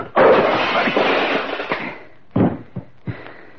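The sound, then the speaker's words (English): A hard punch lands with a loud, crashing thump, followed by a long scuffling clatter as a man falls, then a few short, heavy knocks and bumps trailing off. In a Boston Blackie film scene, a man named Wilson is knocked down by a punch. “Knocking you down doesn't give me any satisfaction at all.”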